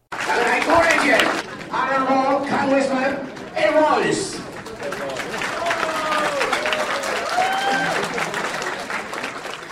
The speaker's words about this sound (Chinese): 罗伊斯特地到民进党美西党部的欢迎参会上跟苏贞昌打招呼，受到会场300多位民进党支持者的鼓掌欢呼。